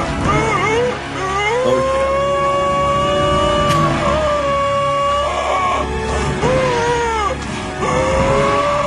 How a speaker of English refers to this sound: I don't know why I did this, but here you go. Some grunting and great groaning sounds.